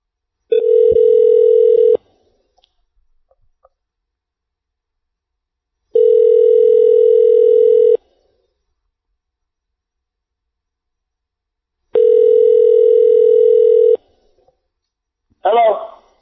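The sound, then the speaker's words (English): A phone line rings out while calling, three steady two-second ring tones separated by long silent pauses, before a voice briefly answers at the end. “We'll try him again.”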